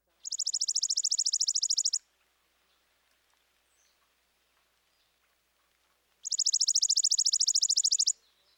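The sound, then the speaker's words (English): Two rapid, dry, mechanical trills of a chipping sparrow's song, each lasting about two seconds and separated by a long pause, clear against a quiet background. “The chippy's song sounds somewhat mechanical.”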